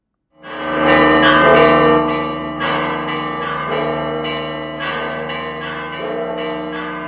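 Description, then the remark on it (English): Church bells in Jerusalem peal loudly and continuously on Easter Sunday at a sunrise service at the Garden Tomb, several bells striking in overlapping, irregular succession so their rich metallic tones blend into a sustained, ringing wash with no voices. “Church bells rang in Jerusalem as worshippers sang hymns of the resurrection at a sunrise service at the Garden Tomb.”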